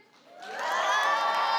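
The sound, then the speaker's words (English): An audience breaks into cheering to vote for Joseph and his brothers as their favorite Bible story, swelling quickly from near silence into a loud, sustained roar of voices and high shouts, holding steady to the end. “So if you want to vote for Joseph and his brothers as your favorite story, let me hear the cheers for that one.”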